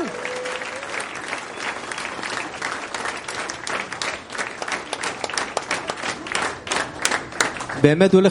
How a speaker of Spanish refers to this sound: Hoy vamos a tener una Yeshivat Haverim que va a ser una bomba. Solo por eso quiero aplausos de todos.